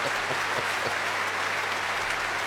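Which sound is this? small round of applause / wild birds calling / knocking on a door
small round of applause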